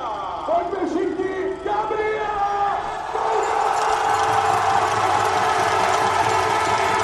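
A large, packed crowd of spectators cheers and roars at a biathlon race, the noise swelling and growing louder about halfway through, with a few tonal horn-like notes in the opening seconds.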